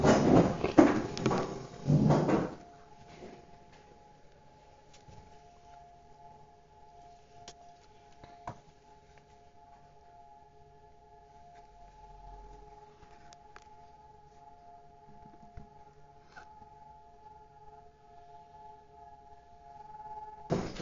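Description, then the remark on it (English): A steady civil-defense siren drones at a constant pitch, sounding to mark a memorial silence of a couple of minutes, sustained for nearly twenty seconds after a brief burst of rustling and handling noise at the start. “Oh, here's the siren. Let's look. Let's stand for a couple of minutes.”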